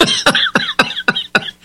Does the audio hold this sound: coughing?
yes